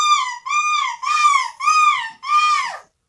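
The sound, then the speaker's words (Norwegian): A person imitates a gull's scream, the winning entry from Norway at the European gull-screaming championship: five loud, shrill, nasal cries in quick succession, each arching in pitch, the last one sliding downward at the end. “Så stas, vi har en norsk vinner dere i måkeskrik EM.”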